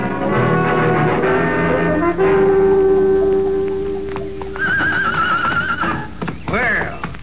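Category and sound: animal, horse neighing and whinnying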